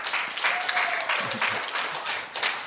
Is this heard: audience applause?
yes